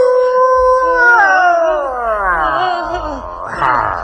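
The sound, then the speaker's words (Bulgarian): A dingo howls loudly, one long wavering note that slides steadily downward in pitch before breaking into a brief rising cry at the end. “Аз съм дивото куче Динго.”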